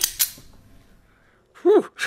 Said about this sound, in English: And we hear a little click-click at the end of that, which is a gun, I think, being cocked into your face.